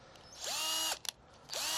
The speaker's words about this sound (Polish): No i teraz, żeby te daszki się trzymały, to musimy je nawiercić. Ja mniej więcej to sobie je ustawiam. 4 dziury.